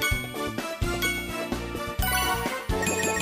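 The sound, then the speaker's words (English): Bright video game chimes ring out in quick succession, layered over a steady, tinkling electronic jingle. The tones are clear and sustained, with no voices. Two dings mark a no-miss result in the Exhibition Match stage. “So as you can hear, I only got the 2 dings for the no miss and the 5 coins instead of 6.”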